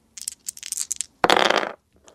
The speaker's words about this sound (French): Des dés. Bonne réponse!